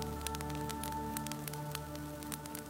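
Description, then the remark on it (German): A fireplace fire at the other end of the room of a small old shop crackles gently, with soft, irregular pops and snaps over a steady low hum, quiet and continuous throughout. “Am anderen Ende des Raumes prasselt ganz sanft das Feuer eines Kamins.”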